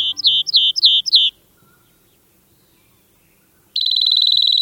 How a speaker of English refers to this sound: The ringing notes of a rock wren's song reverberate across a steep, rocky slope in the American West. The rock wren is most at home in piles of rock rubble at the foot of cliffs, a life zone known as a talus slope.